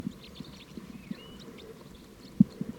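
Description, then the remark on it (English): A huge flock of about 30 crossbills, sounding mainly like type 3s, perched right nearby and calling, with faint, scattered high chirping notes overlapping throughout, set against a low, steady rumble and a few soft thumps. “It's recording, there's a huge flock here.”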